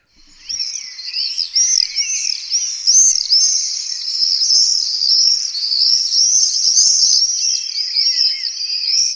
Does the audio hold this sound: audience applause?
no